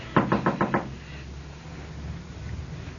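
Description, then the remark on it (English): Five quick, firm knocks on the wooden door of a house with rooms to rent, in an even rhythm, followed by a quiet pause with only faint background hum. “Come on, somebody. Answer the door.”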